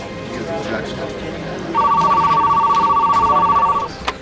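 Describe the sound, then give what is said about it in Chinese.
A telephone rings once with a steady, fast-trilling electronic tone lasting about two seconds, loud, over a busy background with indistinct voices, marking British diplomatic officials phoning the US State Department on 21 February 1947. “当日英国外交官员打电话给美国国务院，转达了两个来自英国政府的消息。”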